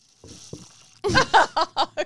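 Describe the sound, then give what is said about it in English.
A faint hiss and a couple of soft clicks, then a burst of loud, wet slurping sips by a woman from her drink bottle, five quick gurgling pulls that grow shorter, right up against the microphone. “every time she takes a sip, it's like the loudest thing I've ever heard in my life.”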